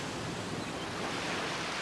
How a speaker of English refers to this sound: Picture yourself in a beautiful place where there is clear blue-green water, a beach with golden-pink coral sand. Hear the waves washing on the shore